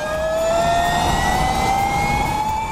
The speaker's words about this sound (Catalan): Un altre punt positiu és el so. La majoria de cotxes elèctrics en accelerar fan un soroll de xiulet, com si anéssim en metro.